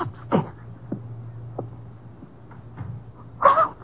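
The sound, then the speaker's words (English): A bedroom door closes upstairs, heard as a few muffled thumps and clicks with a louder final knock, over a low steady hum and no talking. “Sounded like our bedroom door.”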